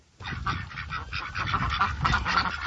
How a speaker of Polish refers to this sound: Co to jest? Kaczki. Bardzo dobrze. Całkiem sporo tych kaczek.